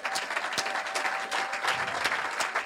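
A crowd at a church service claps steadily in a dense patter of overlapping hand claps, moderately loud and even throughout, with a few faint, timid cheers mixed in and no clear speech, welcoming guest speakers.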